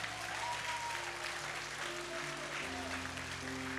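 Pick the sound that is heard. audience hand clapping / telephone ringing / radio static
audience hand clapping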